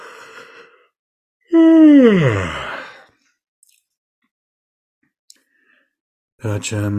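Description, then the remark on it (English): A single loud, drawn-out yawn by the person leading a guided meditation, its voiced tone sliding downward into a breathy fade over about a second and a half, with brief snatches of a voice before and after. “So you just do that, and I will call in the directions and our allies in a second after I yawn.”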